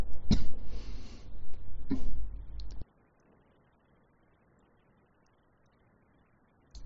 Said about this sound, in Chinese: 咳嗽一下，又是辣的，我想今天没有吃辣的，没怎么吃辣。